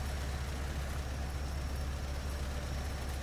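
A car's engine rumbles steadily, a low, even drone that holds at the same level throughout, with no voices, as Commissar Rajabov arrives with soldiers in the yard and gets out of the car.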